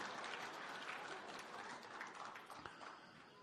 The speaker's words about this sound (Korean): 박수 치는 거 봐, 남자들이.